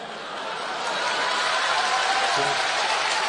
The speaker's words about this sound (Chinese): 观众热烈鼓掌，啪啪啪， 你们就鼓三下是吗？这掌声，这是鼓掌的声吗？